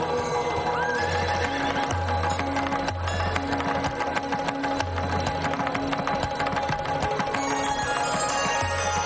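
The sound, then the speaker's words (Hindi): A horse whinnies in rising, wavering cries over a steady, dense musical backdrop with low sustained tones, with a faint clip-clop of hooves mixed in. No one speaks. “यह उच्च शोभा अश्व असुर राज बलि के पास ही शोभायमान रहेगा।”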